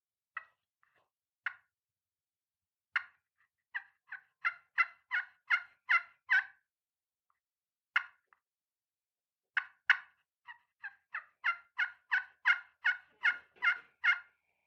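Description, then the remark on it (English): A turkey hunting call played with a striker imitates a hen waking up on the limb: scattered soft clucks, then two rhythmic runs of tree yelps that swell slightly in volume, with no talking. “And you can do your soft clucks that when turkey's first waking up on the limb, your real soft clucks and tree yelps.”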